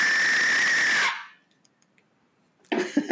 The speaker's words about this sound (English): Should I use my Aztec death whistle to punctuate that?